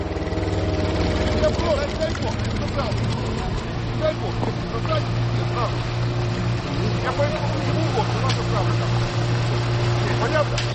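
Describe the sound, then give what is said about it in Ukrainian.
A powerful motorboat engine rumbles steadily on the water at dawn by the village of Pukhivka, the boat steered by two young men; a low continuous drone holding through the whole stretch, moderately loud, with scattered faint background sounds and occasional voices mixed in. “Ледь чути гуркіт двигуна на воді, хоча він потужний. А ось і човен, яким керують двоє молодиків.”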